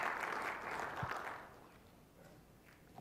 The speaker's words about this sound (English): Yeah, you can cheer. This is awesome. Let's go.